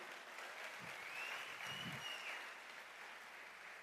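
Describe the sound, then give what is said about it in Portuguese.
A crowd applauds steadily, a dense wash of clapping that holds at an even level throughout, with a couple of brief low thumps early on and no voices. “Pode aplaudir.”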